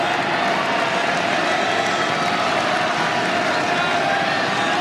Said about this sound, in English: Crowd getting behind Elis, trying to urge him on.